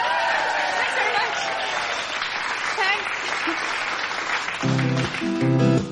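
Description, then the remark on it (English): Dense, steady applause from a crowd fills the whole stretch, with scattered whoops and cheers rising above the clapping as an act is introduced on a radio show; near the end, a pitched, tuneful sound joins in over it. “Now, settle down in a raucous fashion, clapping in your own time”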